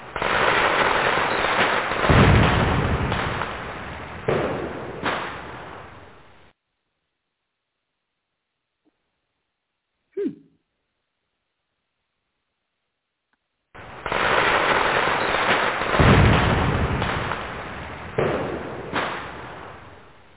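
Fireworks sound effect: a dense, loud barrage of crackling pops and booms, then a quiet gap broken by one sharp bang, before another long stretch of rapid crackling explosions.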